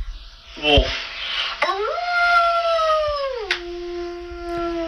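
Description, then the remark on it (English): A girl's voice imitates a wolf howl: a short yelp, then one long, sustained howl that swoops upward, holds steady and slides down to a lower tone at the end. “Wolf.”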